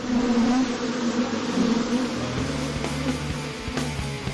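A dense swarm of bees buzzes steadily and loudly, a continuous droning hum with shifting pitch and no voices, during bee removal by Madrid City Council firefighters.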